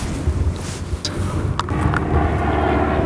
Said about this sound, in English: So actually what we're seeing now, you see that plane waving its wings at us? That's one of our surveyors. That's my friend Rory Clark. He is one person on our shellfish team. And they're actually up there surveying at the low tide for harvesters.